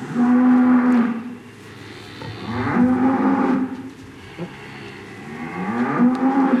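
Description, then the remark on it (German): A cow moos three times in long, drawn-out calls, each rising and holding a steady low tone, fairly loud with short pauses between them and no talking. “Swami Durcheinanda mit Dialog mit der heiligen Kuh Maria bei G.”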